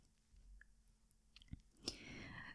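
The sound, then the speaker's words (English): Soft handling sounds of butter being broken into pieces: a few small clicks and a squishy snap, then a quiet rustling crunch, with no talking. “And I'll start breaking the butter in pieces.”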